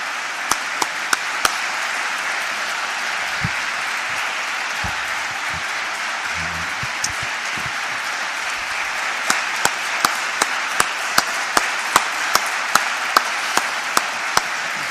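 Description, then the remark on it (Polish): Sustained applause from a large audience, dedicated to Jesus at the close of a 45-minute talk: a dense wash of clapping with scattered sharper individual claps standing out, especially toward the end, and no talking over it. “Mężczyzna ma być wielki, ale już tych braw wystarczy.”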